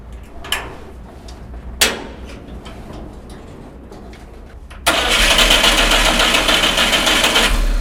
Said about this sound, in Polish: Pośrednio rozrusznikiem się kręci. Samochód ma 4 biegi.